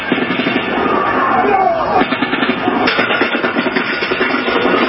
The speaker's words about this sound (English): New officer body cam video shows the moment police realized someone was spraying gunfire into a crowd of people. There's a gun! Get down! Seconds after that warning, this.